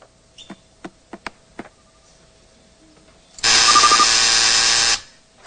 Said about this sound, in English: You buzzed in too late, which means your buzz doesn't count, so I'm going to give it to you in multiple choice.